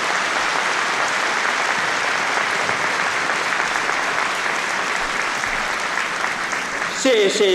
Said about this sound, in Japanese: 私は大会を代表して全国のヒーローたちに感謝を申し上げます。皆様どうぞ拍手をお願いします。